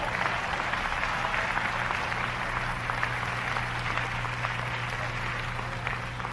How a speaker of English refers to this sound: Yeah. Clap your hands, somebody.